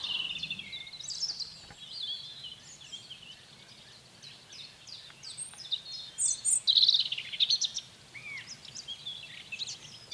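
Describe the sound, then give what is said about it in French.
Several birds sing and chirp outdoors with bright, overlapping warbles and whistles, busiest in the second half, over a soft natural background with no talking; the birds include cirl bunting, blackcap, song thrush, wood pigeon, nightingale and European robin. “Il y avait le bruyant zizi, la fauvette à tête noire, la grive musicienne, le pigeon ramier, le rossignol philomène, le rouge-gorge familier.”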